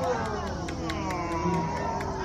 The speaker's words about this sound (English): Now, you're hearing people reacting to tree swallows.